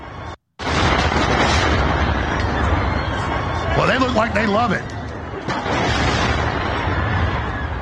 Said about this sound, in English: This is the bridge being blown up with the terrorized public that was out there at the river enjoying themselves at the park.